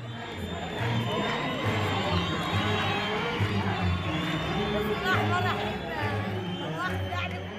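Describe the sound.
A crowd of hundreds cheers and shouts continuously outside the Kaid Ibrahim Mosque on the waterfront in Alexandria, Egypt, celebrating, dense overlapping voices with occasional whoops rising above the steady roar, loud throughout, with low rumbling underneath.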